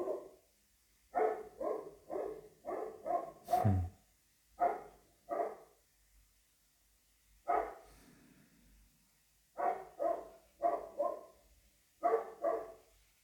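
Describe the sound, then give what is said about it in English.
A dog barks repeatedly in quick clusters of sharp, fairly loud barks, with brief pauses between bursts and no voices present. “Even the dog thinks something means something.”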